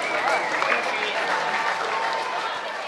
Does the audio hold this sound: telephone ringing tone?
no